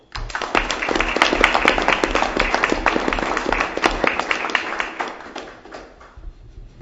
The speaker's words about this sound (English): So we really appreciate your service here on the RAC, and we'd like to have you come up and don't forget your Bronson print, and I'd like to just give these guys a round of applause and thank them for their service.